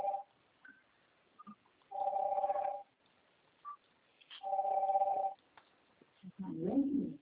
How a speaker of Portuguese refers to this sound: O telefone está doidinho.